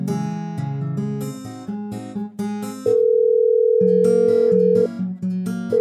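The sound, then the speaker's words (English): A steady, unbroken dial tone from a prison telephone hums for about two seconds, set among plucked, rhythmic background music with repeated notes; nobody speaks. “Use the phone over there. It's a direct line to Thomas.”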